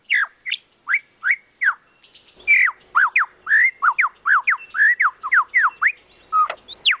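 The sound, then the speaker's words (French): A lyrebird, a bird of the forests of southern Australia, pours out a rapid, varied run of loud whistled and chirping phrases, mimicking the songs of other birds around it, clear with no voices, each note swooping up or down. “L'oiseau lyre, qui vit dans les forêts d'Australie du Sud et qui a développé un talent incroyable. Il écoute le chant des autres oiseaux qui l'entourent et il le reproduit.”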